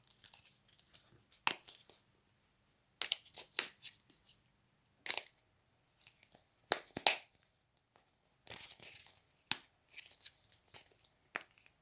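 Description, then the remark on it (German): Nuts spill from rustling bags and crinkly foil in irregular bursts of crackling and light clattering, fairly quiet, with short pauses between the rattles. “Einige Nüsse fallen aus den Tüten und Folien”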